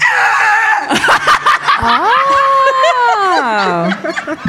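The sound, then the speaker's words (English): A person vocally imitates the noise their very old car made when someone tried to switch it on: a few loud sputtering, coughing bursts, then a long strained whining tone that wavers and sinks away at the end. “It used to make this noise when he tried to switch it on.”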